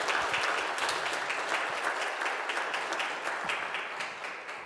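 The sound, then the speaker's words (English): A church audience applauds steadily in the morning to welcome a man, a dense wash of many hands clapping at once with faint individual claps standing out, holding fairly loud for several seconds before tapering slightly. “Let's applaud and welcome him to our church this morning.”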